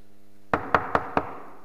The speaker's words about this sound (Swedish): Kan ni se framför er hur en rad upphetsade kvinnor kommer in i stan och bankar på dörren?